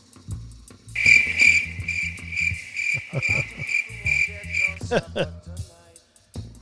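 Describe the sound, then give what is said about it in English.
A cricket chirps in a loud, shrill, rapidly pulsing trill that holds steady for about four seconds, over a low, rhythmic rumbling background. “Well, whatever I was saying, I want to throw in a little cricket.”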